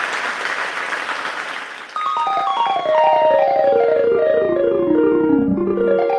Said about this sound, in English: A big round of applause to everybody who supports the show, either monetarily or through their time or through networking. We really do appreciate it. This round of applause is for you.